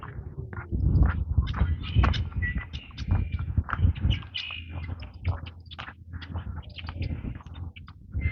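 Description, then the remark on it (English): Many chipping sparrows chirp in quick, high, repeated chips throughout, scattered and overlapping, over a steady low outdoor rumble. No one speaks. “A lot of chipping sparrows.”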